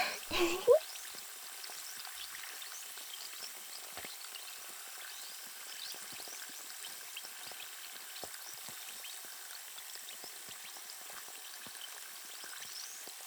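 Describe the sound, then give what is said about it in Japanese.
Steady fizzing of carbonated spring water from a shower, a fine crackling hiss of countless tiny popping bubbles, opening with a brief louder gush before settling into an even, continuous sizzle, as it rinses the ears during an ear cleaning. “炭酸泉を使って洗い流しますよ。”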